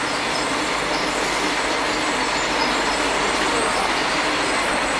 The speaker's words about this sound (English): It's a great big tractor.